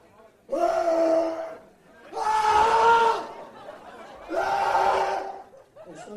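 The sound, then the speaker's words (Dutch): An audience shouts loudly together three times, competing for a prize, each sustained yell lasting over a second with short pauses between, the massed voices forming a bright, strained roar. “Heel hard schreeuwen.”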